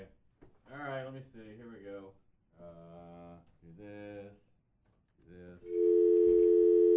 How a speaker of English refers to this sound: I always love dialing the phone on the air because usually it doesn't end well. but it sounds so cool. It does, doesn't it?